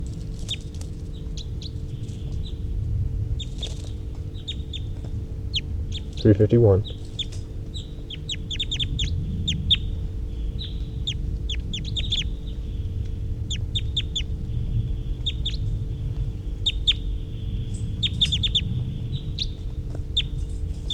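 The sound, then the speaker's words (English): Short, high-pitched calls from birds numbered 351 and 327 repeat in quick, irregular bursts throughout, layered over a steady low rumble, with one brief louder knock partway through. “Three fifty-one's a high pitched, and 327 also calling there.”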